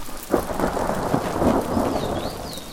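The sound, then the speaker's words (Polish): A thunderstorm in full swing: steady, hissing rain with low rolling rumbles of thunder surging through it, loud, with no voices. “Panie kochani, co my przeżyli, toż to taka burza była, że niech Pan Bóg broni w życiu, jak myśmy przeszli tę burzę.”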